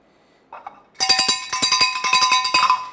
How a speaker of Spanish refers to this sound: Y de un momento a otro, yo voy a agarrar la campana y voy a sonar.